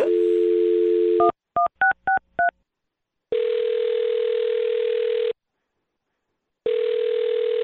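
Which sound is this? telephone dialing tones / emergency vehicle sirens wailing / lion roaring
telephone dialing tones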